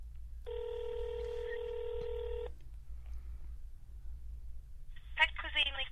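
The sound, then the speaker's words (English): A single steady ringback tone on an outgoing phone call to the pet store Pet Cuisine and Accessories sounds for about two seconds over a low line hum, then falls quiet before a voice begins speaking near the end. “I'm getting it ringing.”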